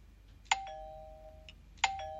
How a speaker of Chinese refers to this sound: 老公，好像有人按门铃了